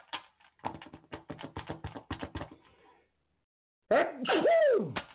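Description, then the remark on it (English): A quick run of sharp tapping clicks stops, and after a short silence a loud, abrupt sneeze, one of a run of three, bursts out with a strong voiced, pitch-sweeping quality. “Oh, bless y'all too. Bless you. Thank you.”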